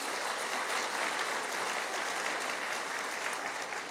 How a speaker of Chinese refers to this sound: 阿妹，拍手把荣耀归给主，好不好？